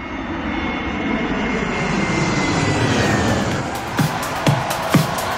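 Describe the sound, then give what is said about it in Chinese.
A steady, broad roar of an airplane passing overhead swells gradually and lingers, with a few sharp clicks near the end. “我就自己过去了，自己坐飞机过去的。”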